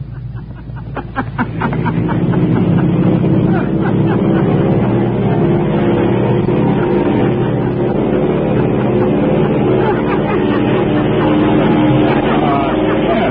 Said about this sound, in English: Is the sound of an airplane taking off with the pilot laughing. Well, that's good.